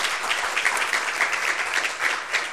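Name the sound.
applause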